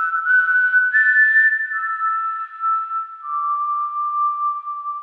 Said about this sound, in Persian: شاخهها و تنه درخت رو بغل کرده بود، نوازشش میکرد و باهاش حرف میزد. البته ما الان میدونیم حرف میزد. اگه در حال یاد گرفتن زبان درخت نبودیم، فکر میکردیم داره سوت میزنه.